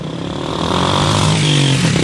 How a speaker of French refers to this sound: Dans cette station-service du centre-ville de Brazzaville, la file de voitures s'étend sur des dizaines de mètres. Les chauffeurs attendent depuis de longues heures